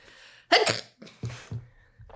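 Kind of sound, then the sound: human body sound, sneeze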